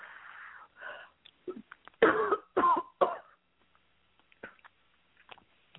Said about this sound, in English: Take a deep cough and they'll all come out now.